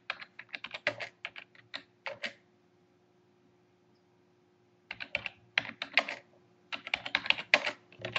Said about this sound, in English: Doing that mail thing again, typing and trying to talk at the same time, and it just doesn't work.